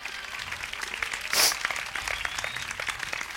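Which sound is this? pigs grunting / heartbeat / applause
applause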